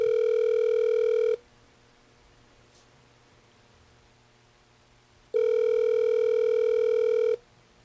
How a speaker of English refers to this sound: Hold on. The phone's ringing.